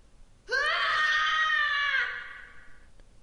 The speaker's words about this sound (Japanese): その時、さっきのドアの中からものすごい叫び声が聞こえた。